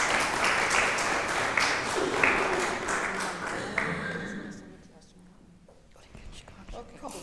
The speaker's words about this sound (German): Kann man auch mal klatschen.